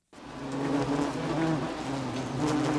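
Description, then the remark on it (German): Wasps buzz continuously, a steady droning hum with wavering pitch that fills the whole moment without pause, no voices present. “Kennen Sie dieses Geräusch? Wer sich jetzt im Spätsommer in seinem Garten aufhält und gerne mal etwas draußen isst, kommt am Summen und Brummen dieser Tierchen nicht vorbei.”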